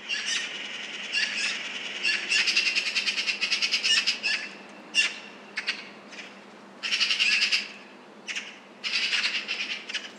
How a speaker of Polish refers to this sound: Sroka jest bardzo ruchliwa i hałaśliwa, zwłaszcza podczas alarmowania przed drapieżnikiem czy konfliktu z innymi ptakami. Wtedy gromadzi się małe stadko i hałas jest jeszcze większy.